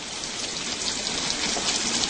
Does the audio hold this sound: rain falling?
yes